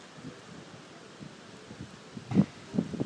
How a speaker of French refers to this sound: tentative de description des sons de la place Saint-Sulpice. Par conséquent, je vais fermer les yeux pour décrire ce qui est omniprésent, ce qui fait un bruit de fond, un bruit blanc de fond du lieu, c'est évidemment la fontaine.